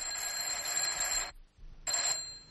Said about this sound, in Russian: Да, в уголовном розыске почти непрерывно звонил телефон. Из районов города и губернии сообщали о происшествиях, убийствах, кражах, ограблениях.